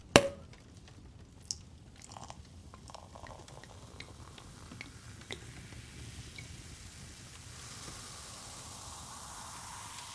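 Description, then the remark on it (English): Champagne is poured on a wedding night, opening with a sharp clink and then settling into a soft, steady fizzing hiss dotted with tiny crackling pops. It stays quiet throughout, and no one speaks. “More champagne? May as well, huh?”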